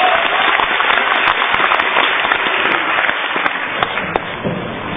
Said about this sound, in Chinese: 好，我们掌声有请田连元老师，有请。